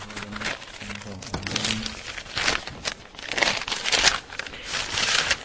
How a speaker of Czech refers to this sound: vytahuje ze sáčků nálezy z Podlažic. Objevují se záušnice, prstýnek, kousky keramiky, přeska.